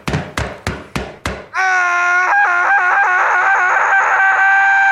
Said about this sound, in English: But then, there was yet another knock at the door.